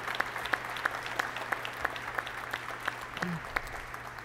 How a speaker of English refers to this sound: Let's give all the members of this family an incredible round of applause for their sacrifice.